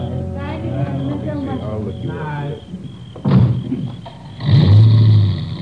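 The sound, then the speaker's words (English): A car engine hums and revs, punctuated by a couple of heavy door-like thuds, as a vehicle pulls away: the last of the guests leaving a house about sundown. “About sundown, the last of the guests left the house.”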